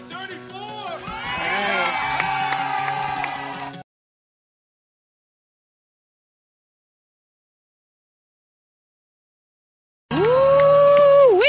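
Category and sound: crowd, crowd cheering and applauding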